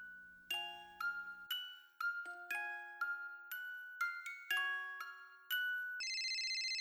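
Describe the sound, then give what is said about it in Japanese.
A mobile phone ringtone plays a bright, bell-like melody of struck notes at a steady tempo, ending in a sustained buzzy tone, clear with no talking. “あ、電話だ。”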